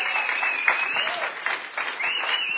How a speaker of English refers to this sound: Come on, can we give Jesus a big hand clap?